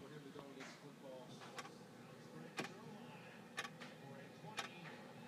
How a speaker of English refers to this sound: Do you hear that ticking? That ticking is driving me mad. My estranged wife got a clock to put underneath our TV